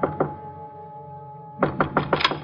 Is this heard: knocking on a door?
yes